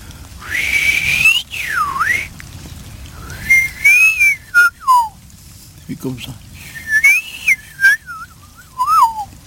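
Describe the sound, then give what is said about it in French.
A person whistles an imitation of the spring song of the yellow-billed blackbird in several fluting, warbling phrases with rising and falling slides, separated by short pauses, fairly loud over a faint background hiss. “Celui-là, il est autour des maisons, il fait son nid, puis le printemps, il siffle comme un monsieur.”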